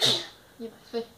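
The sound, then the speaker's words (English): A single short, sharp sneeze bursts out at the start, fairly loud, followed by two brief soft vocal sounds. “Bless you.”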